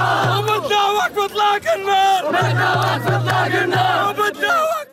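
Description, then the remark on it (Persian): A dense crowd in the Gaza Strip celebrates the Israel–Hamas ceasefire, cheering and shouting together, with overlapping whoops, chanting voices and a steady low drone beneath, loud and continuous for the whole stretch with brief dips. “طی روزهای گذشته پس از اعلام دستیابی اسرائیل به حماس به توافق آتش‌بس با منجگری آمریکا، مصر و قطر، مناطق مختلف نوار غزه شاهد جشن بود.”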